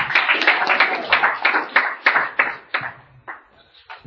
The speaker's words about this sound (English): I'm glad you clap first. You might not clap at the end.